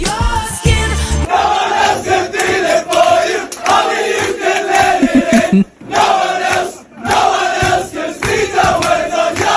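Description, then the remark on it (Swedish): A group of football players loudly bellow-singing together in a locker room, voices overlapping in a rowdy chant with steady rhythm, briefly dipping twice before surging back at full volume. “De väldigt förvånade spelarna fick då besöka superstjärnan och i början så sjöng de lite dämpat, men sen blev det vrålsång.”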